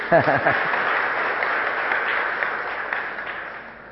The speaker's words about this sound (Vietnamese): Thôi cho chàng vỗ tay đi.